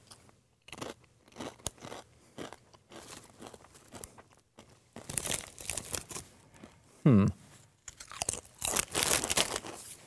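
Loud crunching of crisp Blazin' Buffalo Ranch Doritos tortilla chips being chewed, in repeated irregular bursts, with a brief murmured vocal sound partway through.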